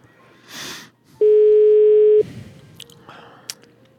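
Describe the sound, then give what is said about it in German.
A single loud, steady telephone ringing tone lasting about a second, from an unanswered call to an advertising agency, set against faint background noise with a brief rushing sound before it. “Was ein echter Werber ist, vor 9-mal heben die eh nicht ab.”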